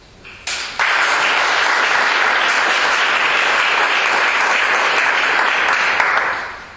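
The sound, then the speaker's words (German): Audience applause for those who had the courage to stand up at the front builds quickly from a few scattered claps into steady, loud clapping that holds for several seconds before tapering off at the end. No one speaks over it. “Und ich glaube, der Mut, sich da vorne hinzustellen, ist auch so etwas wie ein Applaus wert.”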